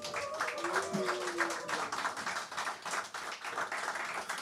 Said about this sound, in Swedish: En stor applåd!